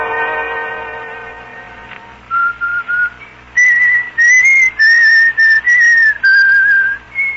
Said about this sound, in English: do you have to whistle that tune all the time?